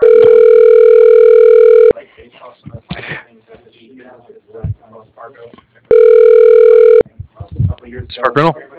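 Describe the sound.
A telephone line tone sounds twice while a phone call is placed, each a long, loud, steady electronic buzz lasting a second or two, separated by a pause filled with faint murmuring voices and rustling.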